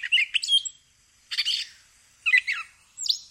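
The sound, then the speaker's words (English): A gray catbird sings a string of varied, squeaky and warbling phrases in four bursts separated by short pauses, bright and high-pitched, with no one talking. “So keep your ears open for the calls of the gray catbird.”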